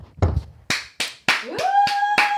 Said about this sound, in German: ich brauche einen Applaus